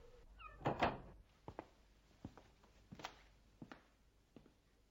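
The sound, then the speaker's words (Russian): An unlocked door is opened with a sharp rattling clatter near the start, followed by several soft, evenly spaced thumps; no one speaks. “И дверь не заперта. Ну, пошли.”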